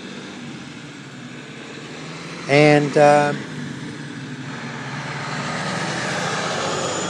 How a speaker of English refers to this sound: yeah, you'll have to excuse that truck, that loud traffic that's coming. There's a garbage truck here.